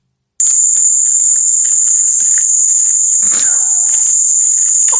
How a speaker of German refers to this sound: Es ist einfach wie so ein Tinnitus. Milliarden Zikaden. Ja, es ist wahnsinnig schlimm.